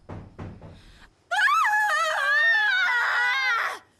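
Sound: woman screaming in fright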